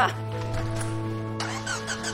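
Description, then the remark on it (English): A car engine with a newly installed battery cranks without catching: a steady, droning mechanical whir with a low hum runs throughout, broken by a few rough, scraping bursts, and the motor never turns over into a running idle. “I hate this car. I just put in a new battery, too.”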